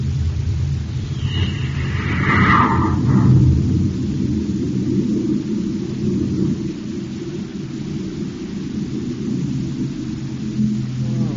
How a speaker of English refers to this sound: Okay, Happy. Stand by for blast off. Standing by, sir. Close port. Close port. Fire jet. Fire jet. Up, ship and away.